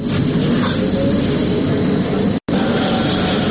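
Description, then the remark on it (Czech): A steady, loud mechanical rumble of a Belgrade city tram, line number 2, set up for free HIV and hepatitis testing, rolling along its rails, with a brief break in the middle. “Ovaj tramvaj na liniji broj 2 ni izgledom ni namenom ne podsjeća na obično javno prometalo na šinama.”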